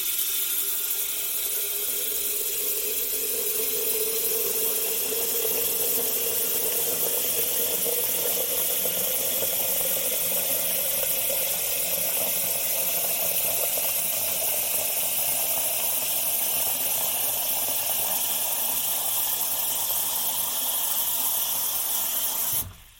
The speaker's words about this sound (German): Normalerweise kann man das raushören, wann der Wasserkocher voll ist. Und dann kann man den Wasserhahn zudrehen. Hört mal einfach mit und überlegt einfach mal, wann würdet ihr das Wasser abdrehen. Passt auf, ich mache jetzt mal den Wasserhahn an.